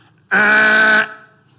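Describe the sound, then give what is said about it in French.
A single loud car horn blast, sustained for under a second with a steady, harmonic-rich tone, then cut off abruptly, leaving a faint background hum. “Est-ce qu'il y a des klaxonneux ici dans la salle?”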